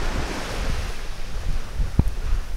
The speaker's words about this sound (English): I'm back out on the white sand beach